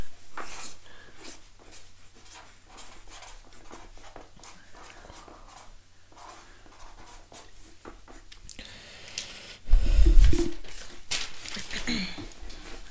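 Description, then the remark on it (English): Pen scratches on paper as the spelling word "quadrilateral" is written, a steady series of short scraping strokes, followed near the end by a louder bump and rustling. No one speaks. “Last word I can put on this paper.”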